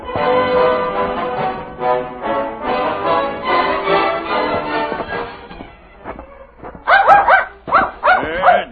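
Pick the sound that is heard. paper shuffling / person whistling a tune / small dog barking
small dog barking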